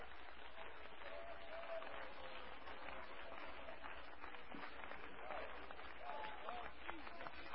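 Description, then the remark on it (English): An audience claps together to praise the Lord in a dense, steady wash of applause that holds at an even, fairly loud level throughout, with scattered voices and faint calls mixed into the clapping. “Clap your hands and let's praise the Lord.”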